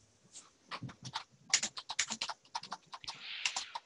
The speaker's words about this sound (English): Can you hear this? I can hear you typing. That's me. Oh. My keyboard's on my last keyboard, yes.